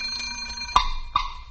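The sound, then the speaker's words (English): An alarm clock bell rings out in three sharp metallic strikes, each leaving a bright, sustained ringing tone, following a quiet stretch with a faint tonal hum; the alarm signals hens to start laying their eggs. “When the alarm goes off, they start off right down the line.”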